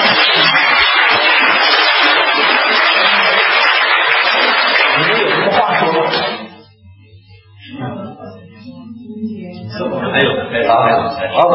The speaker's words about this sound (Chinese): 我们给他们一个掌声，好不好？